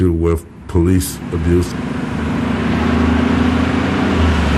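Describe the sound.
Outdoor street ambience at the Detroit bus station in rain and cold: a few brief voices at the start, then a steady, fairly loud low rumble of vehicle engines that swells slightly as traffic passes.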